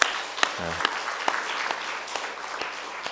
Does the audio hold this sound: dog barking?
no